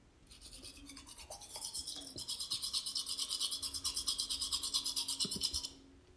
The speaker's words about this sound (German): Und auch beim Zähneputzen ist es gar nicht so leicht, die schwebenden Wassertropfen mit meiner Zahnbürste zu erwischen.